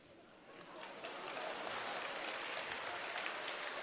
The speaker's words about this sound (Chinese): 好，好，好，好。我为你鼓掌。